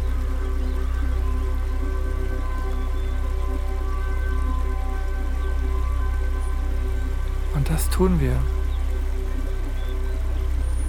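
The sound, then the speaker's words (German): Flowing river water rushes steadily and evenly throughout, blended with soft sustained tones, while a voice briefly speaks a short phrase near the end. “Wir bedanken uns nochmal bei dem Fluss für die Kraft, die wir bekommen haben und die Reinigung.”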